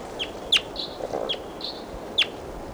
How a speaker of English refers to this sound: Recording, here's a wild bird again.